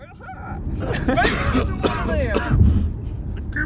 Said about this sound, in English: I think you should clear your throat and sound like Kermit the Frog.